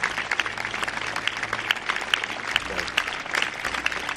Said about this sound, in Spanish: Lógicamente, si hablamos de homenaje y sanitarios, el acto tenía que acabar con un fuerte aplauso.